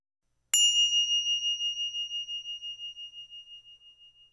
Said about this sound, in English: This bell signals the end of the mindful movement experience.